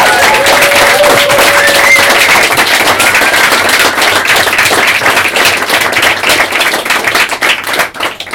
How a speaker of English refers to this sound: Thank you. thank you so much. Will you join me in giving all of our writers tonight a big round of applause?